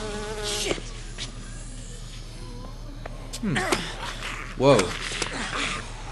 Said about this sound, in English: Ah! Bees? Not the bees! Anything but the bees.